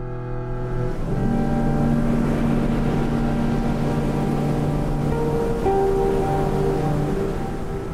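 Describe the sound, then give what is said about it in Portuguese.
A steady, loud roar of huge ocean waves at Nazaré crashing continuously below a cliff in cold wind, with sustained low tones droning beneath the rushing water throughout. “Sentiu o vento frio e observou as ondas enormes.”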